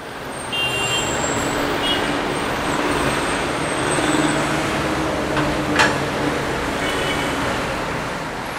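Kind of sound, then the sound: vehicle, city road traffic noise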